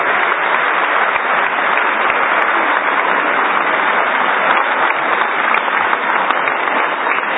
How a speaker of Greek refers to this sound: Χειροκροτήστε τους μαζί μου για το ταξίδι.